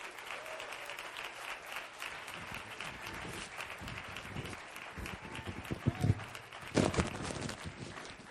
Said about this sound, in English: And I have one hand clapping back there. It's a lonely sound.